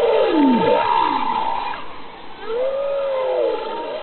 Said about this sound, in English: But she says if a number of whales are singing, this suggests that the bowhead whale population may be doing better than previously thought.